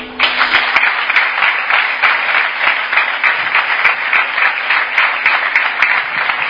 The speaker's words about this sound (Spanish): Ahí tenemos los aplausos para Domingo López Chávez, que se daba cita en el Pernil, que se daba cita aquí en Guijuelo de nuevo, y que agradecía este premio,